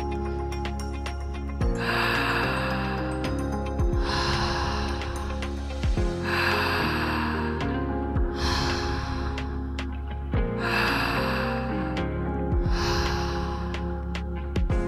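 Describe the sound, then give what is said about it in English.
Steady, forceful continuous circular breathing, each inhale flowing straight into an exhale about every two seconds, loud over a sustained musical drone, with no talking. “Breathing fully in to the top and letting go. Continuous circular breath.”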